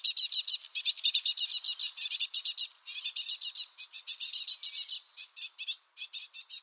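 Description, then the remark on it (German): Nestling birds in a nest box peep continuously in rapid, high-pitched bursts, a dense insistent chorus of begging calls from the hatched young with brief pauses, fairly loud and with no talking. “Und wenn man sie dann irgendwie im Kasten verschwinden sieht, dann hört man es auch oft piepsen. Dann weiß man, okay, die Jungvögel sind geschlüpft und schon da.”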